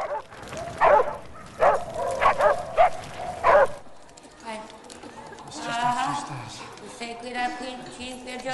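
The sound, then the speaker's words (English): Roaming dogs in a war zone where fires burn bark in a rapid series of sharp, loud yelps for a few seconds, then the barking stops and softer, drawn-out whining tones carry on at a lower level. “It's a war zone out there. Fires burn. Dogs roam.”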